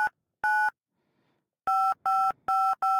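Six short telephone keypad tones are dialed to enter a chat-line room code when prompted by the hostess: two separated by a pause, then a quick run of four, each a steady dual-pitch beep, clear, with no voices.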